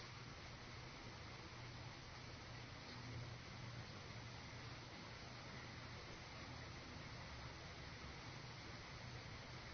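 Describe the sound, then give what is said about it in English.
A steady, even wash of rain falls without pause, forming a soft continuous hiss with no distinct drops or breaks, fairly quiet and unchanging throughout. “It's relaxing into the rain.”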